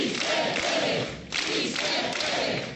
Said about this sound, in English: Si se puede, it's a refrain you hear at protest rallies across Spain, including at Madrid's Complutense University, where Iglesias teaches.